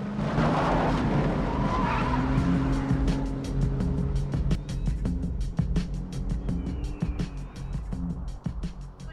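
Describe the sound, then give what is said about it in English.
A car engine revs hard as tires skid and scrabble on loose ground while the car is turned around, then it drives off in a cloud of dust, its steady engine drone mixed with a rapid crackle of flung gravel. “Then turns the car around and drives off in a cloud of dust.”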